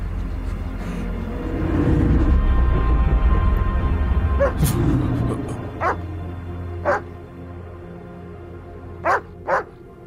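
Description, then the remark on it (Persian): A dog barks in short, sharp yips, about five separate barks spaced irregularly across the second half, over a low steady rumble that is louder early on. “نمیخوایی به سگت بگی آروم باشه؟”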